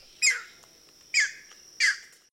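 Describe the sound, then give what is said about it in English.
A green heron, a bird that spends summer in Virginia, gives three harsh, loud squawks, evenly spaced about a second apart, each a short raspy burst heard alone against a quiet background. “Green heron.”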